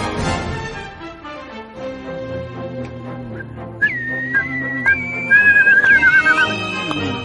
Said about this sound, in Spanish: Mira, hoy os dejo que silbéis, cantéis.